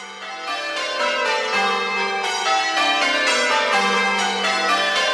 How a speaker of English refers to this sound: The bells are what change ringers refer to as rounds. They start with the smallest bell and go down. So it goes da da da da da da da da da da da da da da.